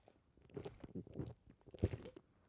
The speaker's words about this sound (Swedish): Så. Det var inte så mycket faktiskt. Ja, det var ju halva Red Bullen. Jag tänkte säga det var ju halva burken. Ja, det är halva Red Bullen kvar. Va? Du bara slukar den.